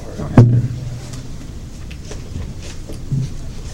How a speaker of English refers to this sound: I'm going to the stand. No, I don't think the stand tilts, but I'm going to raise it. This part's going to be so interesting on the recording. Yeah. Tilting mic stand in my car.